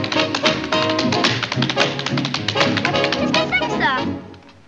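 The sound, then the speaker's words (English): A man tap dances, throwing his arms forward with the beat while tapping backward: quick, rhythmic bursts of sharp metallic clicks, loud and continuous for about four seconds over a tonal backing, then fade out. “He throws his arms forward with the beat, but taps backward.”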